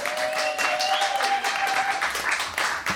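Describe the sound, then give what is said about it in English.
An audience applauds steadily for a few seconds to vote for a winner among contestants, dense overlapping claps at a strong, even level, with a few faint cheers or whistles mixed in. “So pick a winner now with your applause, starting with David Huntsberg, Planes, Trains, and Automobiles.”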